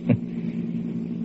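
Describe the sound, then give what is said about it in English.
A steady, low engine drone and road rumble from inside a car moving in rush-hour traffic on a two-lane stretch of freeway under repair, with a brief thump right at the start and no talking. “These freeways, always working on them. Only 2 lanes here.”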